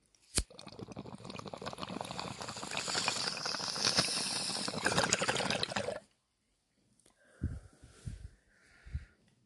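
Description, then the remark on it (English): A steady crackling fizz of sparkling water, dense with tiny popping bubbles, runs for several seconds after a sharp snap, then stops; a few soft liquid sloshes and thumps follow. “That was sparky water.”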